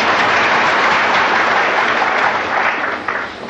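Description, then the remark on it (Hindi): A crowd claps steadily in dense, sustained applause that stays loud throughout, with a slight dip and thinning toward the end; no one speaks over it. “ये तालियां बजाते हो ठीक है, लेकिन एक दिन तुम्हारी ऐसी स्थिति हो तब तो मजा और आएगा।”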